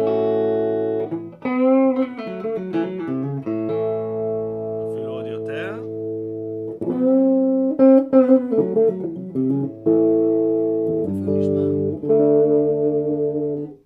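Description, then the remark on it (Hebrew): An electric guitar plays a melodic phrase of sustained single notes and a quick bend. Its tone control (potentiometer and capacitor) is rolled toward the bass, making the tone dark and muffled with the treble rolled off, warm and bass-heavy throughout. “הבנתי, טון זה אקולייזינג לכיוון הבאס. נכון.”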